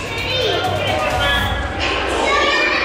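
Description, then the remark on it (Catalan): Children's voices fill the echoing lobby of a luxury hotel in Eilat, Israel, a steady, fairly loud wash of overlapping chatter and high-pitched calls with no pauses, as children of evacuated Israeli families play together. “Els vestíbuls s'han convertit en el lloc d'esbarjo per les criatures.”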